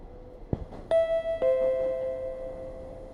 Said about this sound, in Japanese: 瀬戸市役所前、瀬戸市役所前です。左側のドアが開きます。ご注意ください。